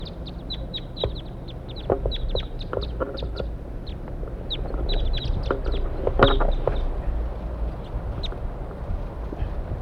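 A flock of wild birds calls continuously with quick, high-pitched chirps and clucks that overlap in irregular bursts, over a steady low rumble of background noise.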